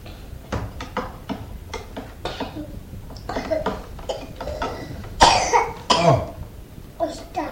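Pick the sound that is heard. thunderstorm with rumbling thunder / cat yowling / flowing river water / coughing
coughing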